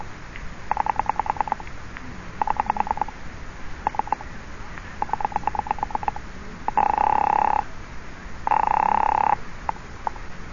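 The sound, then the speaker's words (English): A rotary phone is redialed after a wrong number, in several quick bursts of clicking pulses, followed by two long, steady ringing tones on the line. Everything is clear, with no voices. “That was the wrong number. Dial it again, please.”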